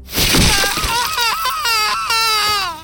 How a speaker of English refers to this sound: Among the many sounds of the swamp, the high-pitched screaming emanating from the small cabin was the most animalistic. As I shattered another of Constance's fingers, she filled her tiny home with the sweet song of pain.